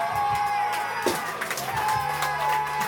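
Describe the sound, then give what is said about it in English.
A baseball stadium crowd cheers on a TV broadcast as the Padres win with a walk-off: a dense, steady roar with scattered whoops and shouts rising and falling. It stays fairly loud throughout, with no clear speech above it. “Padres just walked off. That's what they're cheering about.”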